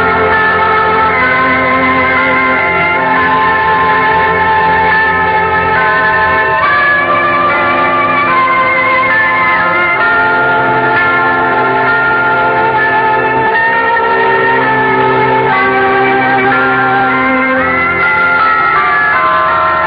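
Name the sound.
cathedral bells tolling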